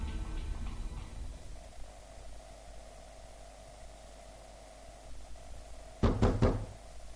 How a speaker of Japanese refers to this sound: 誰かがドアを叩いていた。激しくドアを叩き、ノブをひねる音。ドアの向こうで誰かが何かを叫んでいるようだがよく聞こえない。